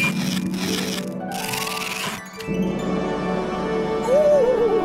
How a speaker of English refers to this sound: Oh, said Winnie. Let's open it, Wilbur. They tore off the paper.